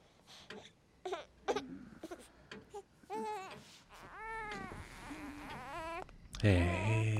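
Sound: baby crying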